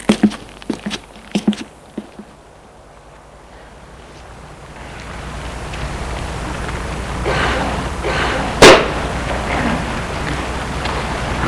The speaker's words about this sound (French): Une fois que la porte s'est refermée, derrière eux.